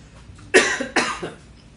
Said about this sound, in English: that's what it sounds like, your cough, you know. I know it's not. Last night I went to a hockey game and yelled too much, and that's what it is. Voice is just done.